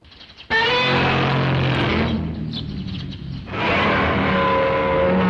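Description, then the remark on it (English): A loud, harsh old movie monster roar bursts in suddenly and rasps on, dipping briefly into a rougher growl before swelling again into a sustained, gritty bellow with a tonal edge. “That sounds like an old roar.”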